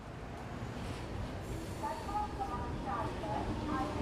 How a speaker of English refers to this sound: Here we are! The train station can get really busy, so stay close.